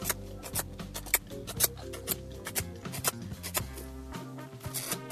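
Quick, irregular clicks and clatters from Benny, a pet miniature horse, rattling like a typewriter, repeat throughout with a steady musical bed underneath and no voices.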